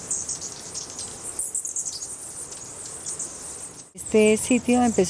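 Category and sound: bird, hummingbirds chirping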